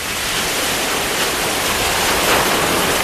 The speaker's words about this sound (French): Un vent léger venu du large fait bruisser les arbres fruitiers qui entourent la maison